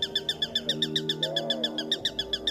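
A sparrowhawk calls in a fast, steady series of sharp, high kek notes, about six per second, fairly close and clear over a faint low background hum, heard from a camouflaged hide.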